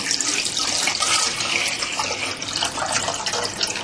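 Water runs steadily from a tap into a pot, a continuous splashing hiss that holds for several seconds with no one speaking.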